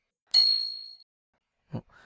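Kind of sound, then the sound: small bell ringing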